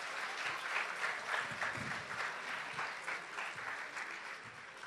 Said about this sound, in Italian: Intanto facciamo subito un applauso a Nadia Terranova per salutarla.